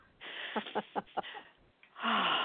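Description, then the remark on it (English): A raspy throat clearing: a rough breathy rumble broken by four quick guttural pulses, a brief pause, then a louder, longer harsh rasp to finish. “Let me just clear my throat.”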